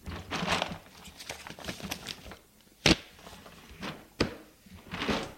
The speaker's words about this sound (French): de ses mains tremblantes, sort un bloc de papier du tiroir et le dépose sur la table.